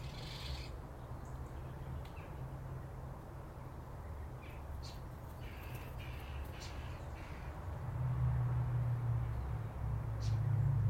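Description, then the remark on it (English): A mistle thrush gives a few short, dry rattling calls over a constant low rumble and outdoor background noise, with no one speaking. “It came eventually, after working my way through the alphabet. Missile thrush.”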